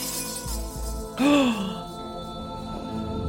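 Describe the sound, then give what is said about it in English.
A mirror shatters in one sudden, loud crash, followed by a brief ringing tone and scattered tinkling that fades into a low, steady background. “You hear the shattering of a mirror.”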